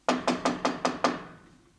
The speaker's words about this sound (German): Und der Gesandte geht zu diesem Haus, zu dieser Tür und er klopft an. So.